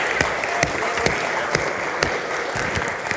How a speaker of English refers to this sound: Well done. I think they all deserve a round of applause. Give them a clap, please.